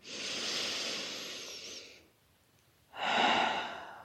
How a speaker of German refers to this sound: Einmal normal atmen.